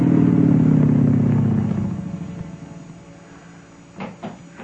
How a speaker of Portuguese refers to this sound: Olha, tá ouvindo, inspetor? Tem uma moto que vai chegando aí.